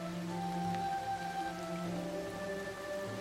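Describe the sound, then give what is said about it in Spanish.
Rain falls steadily as a continuous, even hiss, with a low droning hum running underneath and no voices. “Contemplas la lluvia cayendo.”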